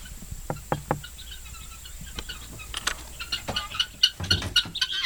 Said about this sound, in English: This is the house of the guineas, and now it's time for them to come out.